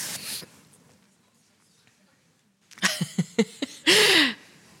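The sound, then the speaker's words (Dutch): After a quiet stretch and a few knocks and rustles, someone lets out one loud, sharp sneeze, with a brief voiced burst at its end. “Gezondheid.”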